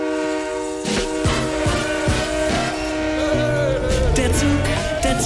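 A train horn blares in a long, steady chord while regular rhythmic knocks pulse underneath, loud, with no one talking.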